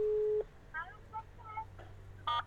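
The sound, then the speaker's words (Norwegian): A steady telephone ringback tone hums for a moment and then cuts off, followed by faint, muffled voice-like sounds and a short tonal blip at the end. “Ringer op.”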